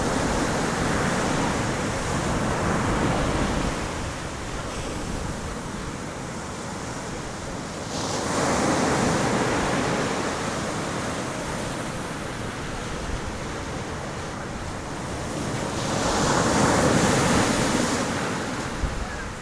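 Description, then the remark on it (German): Continuous roar of sea surf with wind, swelling in broad waves every several seconds and easing between them, loud with no voices. “Das Rauschen des Meeres und des Windes im Ohr.”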